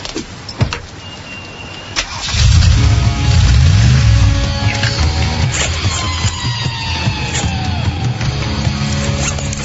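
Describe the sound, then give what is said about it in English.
After a couple of quiet seconds with a few clicks, the engine of a really big truck roars to life, revving loudly with rising and falling pitch, then settling into a heavy rumbling idle. “This is a really big truck.”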